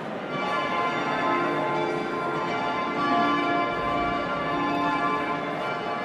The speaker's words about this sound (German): Was wir hier hören, sind Glocken, ein Glockengeläut, nicht zu verwechseln mit einem Glockenspiel. Das hat sich nämlich der Abt des Klosters angeschafft. Diese Glocken dann auch so stimmen lassen, dass man sie spielen kann.